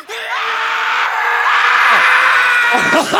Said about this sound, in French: On parlait de hurlement. Vous voulez entendre un hurlement? Eh ben le voilà, le hurlement.